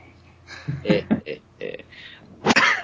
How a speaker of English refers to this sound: I'm still fighting that cough. However, you need to see somebody with that, man.